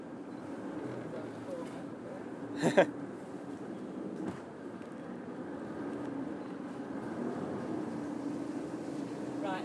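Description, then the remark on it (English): A small boat moving along a canal, its engine a steady low drone with watery noise throughout, broken by a couple of sharp knocks early on; indistinct voices may sit faintly underneath. “I think standing up is generally not a good idea on these boats on the small canals.”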